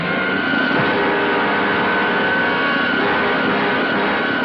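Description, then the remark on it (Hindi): A car engine, started and kept running at a highway petrol pump, drones steadily at mid-loud level with a faint whine on top, holding even throughout without noticeable revs or pauses and with no voices. “गाड़ी स्टार्ट करके रखो, अपने हाथ ऊपर करो।”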